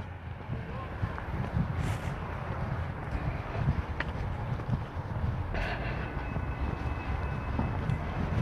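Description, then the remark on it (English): A Metro Rail train rumbles past on Christmas Day, a steady low roar with brief metallic squeals and clicks, mixed with wind buffeting the microphone. “I hear a train. Hear it?”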